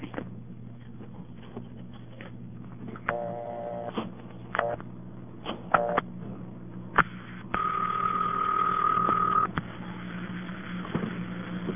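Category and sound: signal or alarm, telephone dial tone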